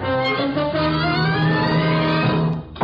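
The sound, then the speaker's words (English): A car engine roars and accelerates, its droning pitch climbing steadily as the vehicle speeds off. The sound stays loud for the whole stretch, with no voices. “That car, Bill. Go after that car.”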